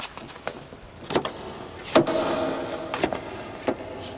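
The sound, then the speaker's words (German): A man unlocks his car with a few sharp clicks, followed by the clunk of a door opening and a low mechanical whir, with no voices. “Er ging zu seinem Wagen und schloss ihn auf.”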